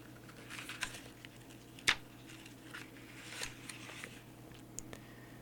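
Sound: turning a book page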